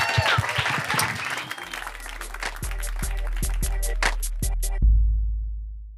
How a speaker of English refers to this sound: That was great, guys. That was great. That was the hypothetical situation. Give these guys a round of applause.